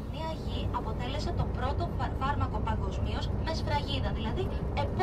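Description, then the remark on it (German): Steady low engine rumble and road drone from inside a moving bus on the island of Limnos, continuous throughout, with a person talking over the noise. “Von einer jungen Archäologin höre ich im Bus zum ersten Mal etwas über die heilende Wirkung der Inselerde.”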